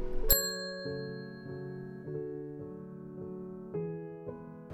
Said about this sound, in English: There will be several points along the route where you can pause the podcast. This will be symbolised by a chime.